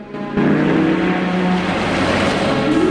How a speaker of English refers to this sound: The people carrier follows her out of the gas station and Felix's car, which was waiting behind him, pulls up to the pump.